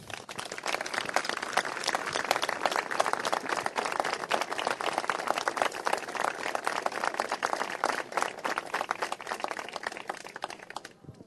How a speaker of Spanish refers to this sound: Pido un fuerte aplauso.